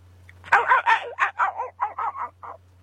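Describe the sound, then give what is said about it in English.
A dog barks in a quick run of about nine sharp yaps, sounding somewhat distant, with a low steady hum running underneath throughout. “even CBD for pets, right, far away dog?”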